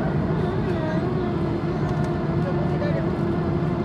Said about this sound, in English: this airplane makes a lot of weird squeaks and noises. The 40-minute flight is maybe not where they put the most tip-top plane.